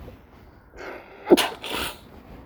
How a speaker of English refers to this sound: Oh my God, excuse me. I had to sneeze. Oh, excuse me. Sorry.